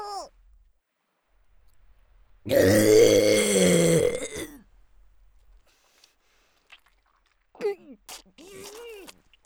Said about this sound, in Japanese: ザーメンごっくんしただけでゲップが止まらないなんて、私の体どうなってんのよ。